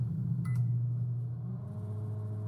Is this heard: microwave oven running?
yes